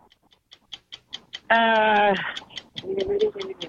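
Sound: ticking clock countdown timer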